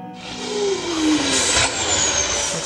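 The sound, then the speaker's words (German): A convoy of heavy trucks carrying toxic cargo to a waste repository rumbles past, engines droning loudly with a falling whine as one passes, and a sharp hiss of air brakes bursting midway. No voices. “Bereits kurz darauf gelangte ein erster Lkw-Konvoi mit seiner giftigen Fracht unbemerkt zum Endlager.”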